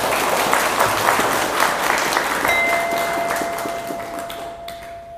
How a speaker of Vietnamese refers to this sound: thì hãy dâng cho một tràng vỗ tay thật lớn nào.